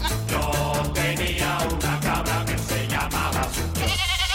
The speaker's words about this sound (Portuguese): Agora vem a cabra.